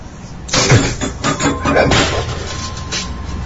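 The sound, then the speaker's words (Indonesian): A busy clatter of household objects being knocked and shuffled about in a kitchen, as if someone is ransacking it, with repeated bangs and scrapes like cupboards and items rattling, fairly loud, continuing without pause after a quiet start. “terdengar bunyi gaduh dari arah dapur. Seperti ada yang mengacak-acak dapur.”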